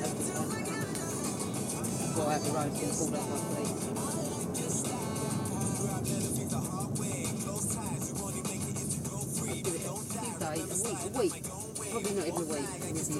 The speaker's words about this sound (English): So we're driving home now from the showroom, and it feels a bit strange. It doesn't seem 5 minutes ago since I was pulling you in a buggy. Now he's driving me in a car.